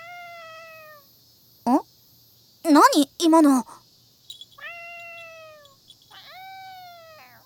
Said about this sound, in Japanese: 猫？どこから入ってきたのかしら。